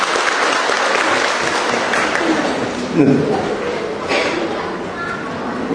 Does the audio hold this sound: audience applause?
yes